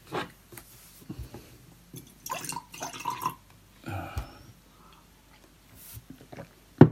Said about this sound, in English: Okay. Pour myself a drink.